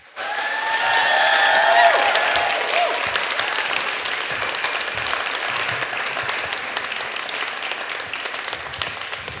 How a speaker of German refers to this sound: Okay, dann klatscht unseren ersten Teilnehmer des Wettbewerbs hier ans Mikrofon mit einem 10-Punkte-Applaus.